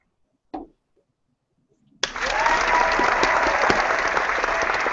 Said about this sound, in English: Ooh, real clapping.